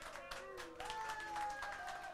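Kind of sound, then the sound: crowd, applause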